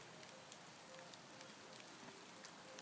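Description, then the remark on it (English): Steady rain patters onto the stones of a private garden at a rented apartment in Spain, a dense hiss broken by scattered sharper droplet taps, fairly quiet and continuous with no one speaking. “There's rain hitting the stones in our private garden because of our nice new apartment that we're still renting here in Spain 3.5 weeks later.”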